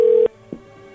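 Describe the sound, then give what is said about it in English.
A steady telephone tone hums loudly, then cuts off abruptly with a click, followed by a fainter tone and a soft clunk, like a call dropping to a dial tone. “Hey, the phone cut out for some reason.”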